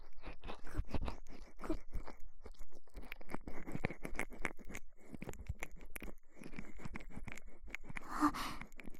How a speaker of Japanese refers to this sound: すごいすごい、ほれほれ、奥を指先でふりふりふりふり、くりゅくりゅくりゅくりゅくりゅくりゅ